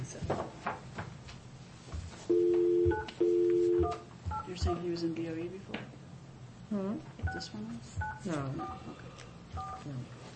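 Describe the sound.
Two long electronic telephone tones sound in quick succession as a phone call is placed, followed by a scattering of shorter beeps, while muffled voices and faint noises carry on in the background.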